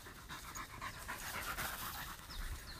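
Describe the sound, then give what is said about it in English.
A Labrador pants rapidly and steadily, quick breathy huffs repeating in an even rhythm for nearly three seconds, moderately loud with no voices over it. “Flipping Labradors and water.”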